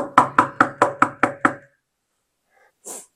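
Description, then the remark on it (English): Six firm, evenly spaced, loud knocks on a door in quick succession, followed after a pause by a brief soft hiss. “But is he standing at the door of your heart and knocking?”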